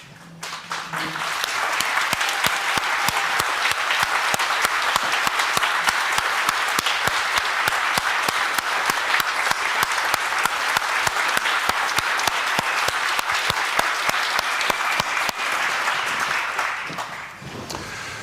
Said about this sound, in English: Can everybody who helped out please stand up and be applauded?